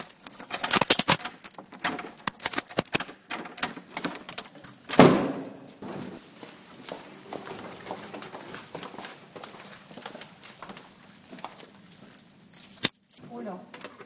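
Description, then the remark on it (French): A bunch of keys on a ring jangles and clinks in repeated bright metallic bursts with a louder rattle midway, while a person speaks quietly in the background. “la fois proche avec mon trousseau.”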